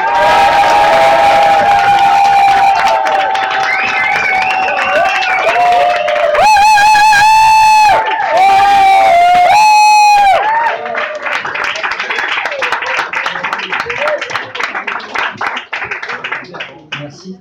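A loud crowd cheers and whoops with high-pitched shouts and screams over steady applause, swelling in the middle and then settling into sustained clapping.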